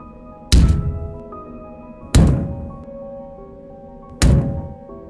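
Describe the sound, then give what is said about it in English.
Three heavy, booming knocks coming from a kitchen land about two seconds apart, each a deep thud with a short resonant ring that fades before the next. No voices, just the slow, evenly spaced impacts. “My heartbeat hammered in my ears like an echo of the knocking sound.”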